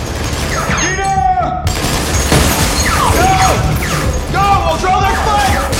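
A submachine gun sprays bullets in a loud, continuous rattle of rapid shots as a man pops out from behind a wall and fires at an advancing combat team, with rising and falling shouts or whines cutting through the dense gunfire.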